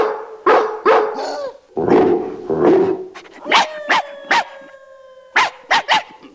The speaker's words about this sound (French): Il fait appel à l'aboiement du soir, un moyen de communication souvent utilisé par nos amis les chiens. De maison en maison, d'aboiement en aboiement, la nouvelle de l'enlèvement des 15 petits se répand à travers la ville et bien plus loin encore.